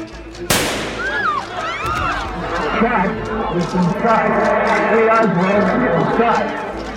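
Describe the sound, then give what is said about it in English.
A single sharp, loud pistol shot cracks out near the start as Jack Ruby leaps from a crowd in a basement hallway and fires into Oswald's stomach while officers escort him. It is followed at once by a commotion of many raised, overlapping voices shouting and crying out as Ruby is tackled. “Jack Ruby leaps from the crowd, firing a pistol into Oswald's stomach.”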